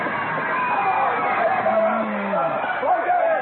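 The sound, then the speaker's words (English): A large crowd roars and clamors steadily, with overlapping shouts and raised voices rising and falling at a constant, loud level, as spectators watch two bleeding men swing wildly at each other in a fight. “And of all the fascinated crowd, the one most enthralled by this barbarous spectacle”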